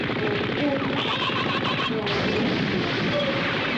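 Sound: burst of gunfire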